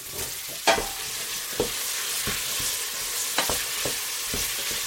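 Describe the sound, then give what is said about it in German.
Pumpkin pieces fry with onions with a steady, hissing sizzle in a pan, broken by several sharp scraping clicks as a utensil stirs them, about six strokes at irregular intervals. “Bisschen braten, umrühren.”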